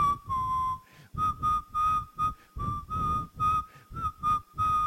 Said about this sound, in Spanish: No, todo silbando solo así.